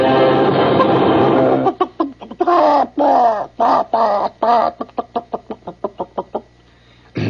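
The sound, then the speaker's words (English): A voice imitates a chicken, starting with a long, loud squawking cackle, then breaking into a run of rhythmic clucks that get shorter and quicker before trailing off. “We've been just deluged with requests for my singing chicken.”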